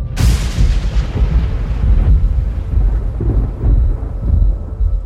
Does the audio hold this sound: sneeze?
no